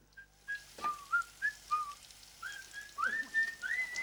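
A man standing in front of a urinal whistles a bright, lilting tune, a steady run of clear pitched notes that slide and rise, with faint background hiss and no talking.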